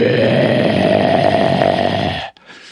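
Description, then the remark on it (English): A stag growls in one long, loud, rasping rumble that holds steady for over two seconds, then cuts off abruptly, followed by a brief quieter breathy tail. “And then you'll sometimes hear him just growl like.”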